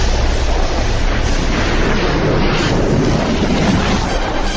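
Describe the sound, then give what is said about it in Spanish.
A loud, steady storm roar of rushing wind and pouring rain at the start of a song, a dense hiss that holds constant for several seconds with no voices. “Sí, la tormenta del inicio de canción dice mucho, ¿eh?”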